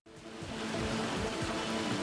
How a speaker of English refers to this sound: and we're here along the banks of the North Anna River. And as you can hear from the water tumbling over the falls behind me, we are in a region where the rocks are sticking out of the river